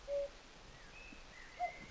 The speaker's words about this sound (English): It brings you back to childhood as well. You hear the cuckoo, you know. So, and it's traditional, like, every year you hear. When you hear the cuckoo, that means the summer and the spring is, you know, there.